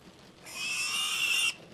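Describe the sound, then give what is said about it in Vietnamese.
A loud, shrill squeal from pigs in a village livestock area during rain, sustained for about a second with a harsh, piercing tone, rising suddenly out of quiet background and cutting off abruptly. “Tiếng mấy con heo kêu inh ỏi phát ra.”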